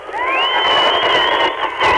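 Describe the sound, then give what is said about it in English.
A huge crowd gathered below for a balloon release roars and cheers on request during a Sunshine 101 FM radio broadcast, in one sustained, dense wall of voices, with high shouts rising over the steady din for the whole two seconds and no single voice standing out. “Okay, can anybody give us a cheer down there?”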